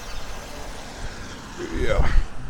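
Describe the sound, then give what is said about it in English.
A car approaches along a street, its engine rumble growing louder and rising in pitch as it comes up and passes by, with faint street background throughout. “Cross the street quickly. Here comes a car.”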